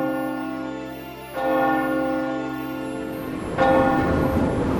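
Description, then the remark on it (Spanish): A clock's deep bell chimes strike slowly at midnight, the last chimes of the day, each resonant toll ringing out and overlapping the next, loud with no voices present. “El reloj comenzaba a dar las últimas campanadas del día.”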